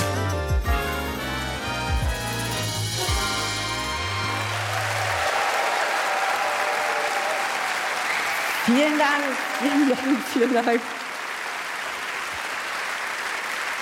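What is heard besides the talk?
audience applause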